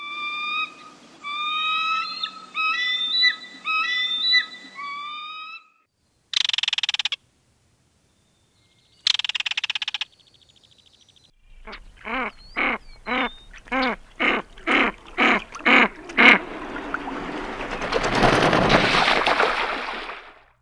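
A series of bird calls: a bald eagle's thin, high chittering whistles, then a belted kingfisher's harsh bursts and rapid rattling, ending with a canvasback duck's rough, breathy calls. No talking.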